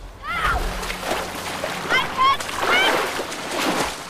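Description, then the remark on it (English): Water splashes and sloshes as Picard and Data dive from the opening in a ship into a lake, with several bursts of churning spray while raised, wavering voices cry out over the commotion. “Picard and Data both dive from the opening in the ship.”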